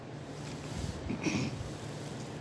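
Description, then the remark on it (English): Steady, low wind rumble buffets the microphone outdoors in a park at night throughout, with a brief higher-pitched sound rising midway; no one speaks. “I hope you can hear this because it's still a bit windy out here.”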